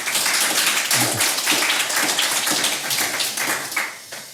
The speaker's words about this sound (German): Und natürlich, wie für alle Gäste hier, einen donnernden Applaus. Bitte schön.